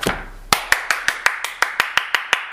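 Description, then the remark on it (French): Applause in a steady rhythmic beat: about a dozen sharp, loud claps evenly spaced, with no voices underneath. “On applaudit bien fort.”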